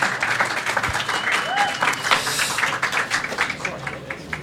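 Steady applause from an audience for a live band at the Ellen Melville Center, New Zealand, a dense crackle of many hands clapping at even loudness for several seconds, with a few faint cheers mixed in.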